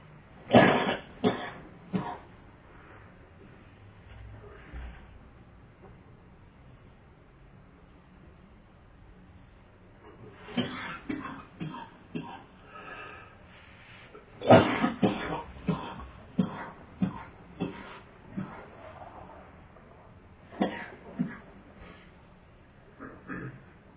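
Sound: man coughing repeatedly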